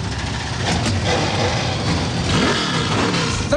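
A dense roar of 38 NASCAR Xfinity Series race car engines firing up and revving together on the pit lane at Rockingham, loud and sustained, with overlapping throttle blips rising and falling and no voices over the din.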